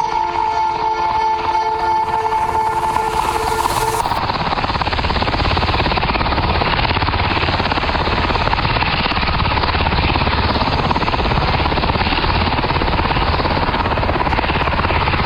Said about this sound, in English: Traffic sounder. Where's my, traffic sounder? This is it. Phil Hendry Show traffic.